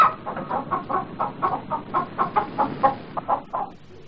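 hen clucking

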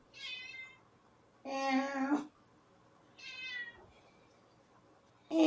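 cat meowing

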